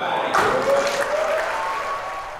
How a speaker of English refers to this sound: And you can hear the wild applause after that.